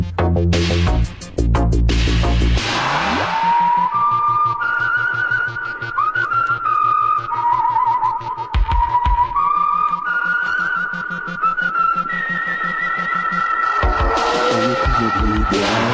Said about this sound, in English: Lots of whistling there.